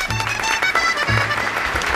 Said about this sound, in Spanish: vamos a recibir a una de las humoristas más brillantes del ancho e inmenso universo. Un fuerte aplauso para Belén Cachia.